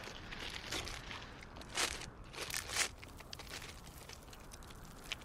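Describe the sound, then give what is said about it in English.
Soft crinkling of a dirty bag of Skittles mixed with crunchy chewing of the melted candy inside, coming in irregular bursts with a few louder crackles, quiet overall and with no voices. “He grabs a dirty bag of Skittles and eats the melted candy inside.”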